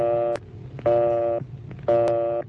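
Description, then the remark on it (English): A telephone busy signal, indicating the called line is busy, repeats its harsh, steady buzzing tone in even on-off pulses, about two and a half bursts heard clearly, with no talking over it. “If the line is busy, you'll hear this busy signal.”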